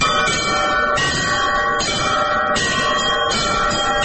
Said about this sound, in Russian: Теперь добавьте вот эти два подзвонных колокола. Первый и второй.